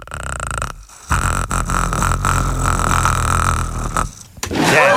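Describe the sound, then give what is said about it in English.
A voice imitates the growl of the Predator creature from the movie The Predator: a loud, raspy, rattling rumble held for about three seconds, with a short break in its first half, followed by a brief breathy burst at the end. “My other secret skill is I can make my voice sound like the Predator from the movie The Predator.”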